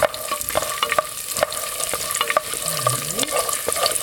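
Walnuts frying in olive oil over medium heat give a steady bright sizzle, broken by irregular scraping clicks and knocks from a utensil stirring the pan. No one speaks.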